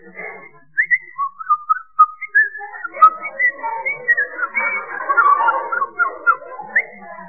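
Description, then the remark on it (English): A person whistles a lively birdlike song in quick, varied phrases: short trills, rising and falling chirps and warbles, mostly high-pitched and fairly loud, imitating a thrush sitting on a nettle. No speech is heard. “Whistle like a thrush.”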